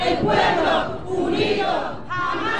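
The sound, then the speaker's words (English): A crowd of marchers in a peaceful night march through West Kensington, Philadelphia, in honor of Eddie Irizarry Jr., chants "The people united will never be defeated" loudly in unison, voices rising and falling in rhythmic phrases with brief dips between lines, sustained and energetic throughout. “Marchers chanted as they filled the city streets, making their way past the spot where Irizarry Jr.”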